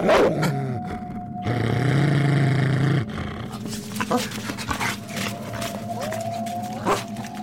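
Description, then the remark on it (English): A solitary hound with a gleaming white coat and deep crimson red ears, emerging from the brush, gives low, rumbling growls and a drawn-out, wavering howl, fairly loud, with rustling and scattered outdoor noise around it. “A solitary hound emerges from the brush and pauses for a moment, gazing straight into Pryderi's eyes.”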